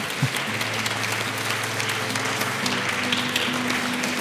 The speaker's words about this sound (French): On peut l'applaudir.